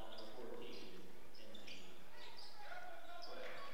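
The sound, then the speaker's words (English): A basketball bounces repeatedly on a hard court in a steady dribbling rhythm as a player in a basketball game dribbles around trying to avoid a double team, with high squeaky sounds and murmuring voices in the background. “drives down to the three-point line quickly, now just dribbling around trying to avoid the double team”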